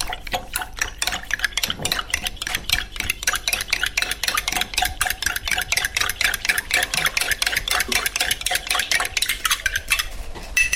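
A spoon stirs starch with a little water in a separate glass, making a steady stream of bright clinking and scraping ticks against the sides that keeps going without pause for the whole stretch, with no talking.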